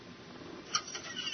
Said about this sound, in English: Now, that door you heard opening means that I have a contact online.